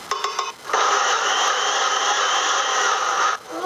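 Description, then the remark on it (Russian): A blender blending grapefruit pulp with honey whirs steadily for about three seconds, a loud, even, grinding motor drone that starts abruptly after a few short stuttering pulses and cuts off sharply. No one speaks. “делаем, это разрезаем наш грейпфрутик, выбираем всю мякоть и взбиваем в блендере вместе с медом.”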